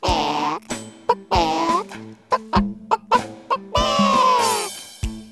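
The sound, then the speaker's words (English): A big fat hen clucks in a quick series of short bursts, ending with a longer drawn-out squawk, over a faint steady musical tone. “Nine, ten, a big fat hen.”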